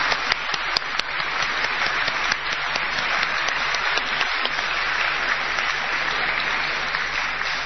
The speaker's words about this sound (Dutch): Ik wil jullie ook, groep 78 Zingt, van harte danken. Ik wil nogmaals een warm applaus voor jullie vragen.